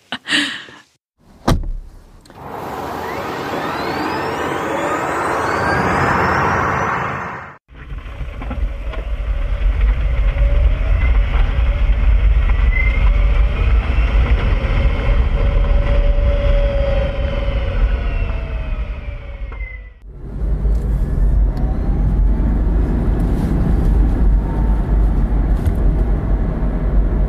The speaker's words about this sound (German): Wir kriegen jetzt Sounds eingespielt. Die sind von einem Auto und es gibt verschiedene Türen, Motor